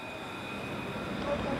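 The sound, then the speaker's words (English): A tram rolls past at tram stop number 20, on the corner of Lennox and Victoria Street, a steady low rumble with a thin, sustained electric whine riding above it, holding even throughout. “So this is stop number 20, there on the tram and over there.”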